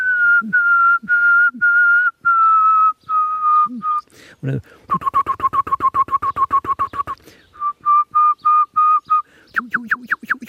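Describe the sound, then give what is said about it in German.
A person whistles an imitation of a nightingale's sobbing song: long sustained pure notes, then a rapid run of repeated throbbing pulses, more drawn-out tones and quick chirps, loud, with a brief spoken word. “Was ist mir der Nachtigall? Oh, hab ich auch hier. Der ist nun nicht Licht. Das Schluchzen, da kann ich.”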